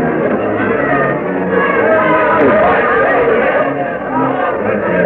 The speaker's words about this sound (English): The crowd waiting here before the Raleigh Tavern extends far up and down Duke of Gloucester Street.